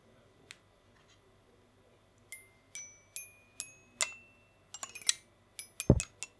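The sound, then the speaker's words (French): A tetrahedral Rubik's twisty puzzle being turned: a dozen or so crisp plastic clicks with a slight ring, spaced out at first, then quicker bursts near the end, with no talking. “Rubik's Cube. Tétraèdre. Pas classique.”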